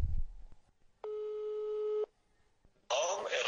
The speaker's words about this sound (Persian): داره بوق میخوره گوشیش.